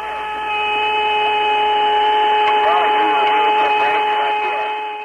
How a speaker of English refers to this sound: But it's funny because they're saying, like, they're calling it space music, but it's really just a whistling noise.